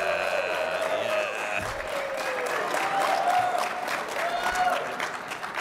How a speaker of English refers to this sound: All right, so when I say scoop, you guys say scoop and do some cheering here. You guys ready for this? Scoop! Yeah.